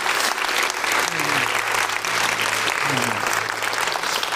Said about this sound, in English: Let's give the Lord a big hand clap of praise. Hallelujah.